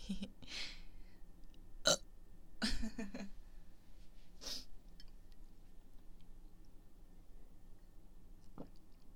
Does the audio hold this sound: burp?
yes